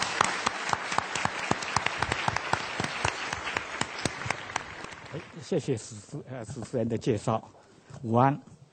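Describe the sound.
A conference audience applauds to welcome a speaker, with dense, overlapping claps for about five seconds. The clapping then fades out and a single voice begins speaking.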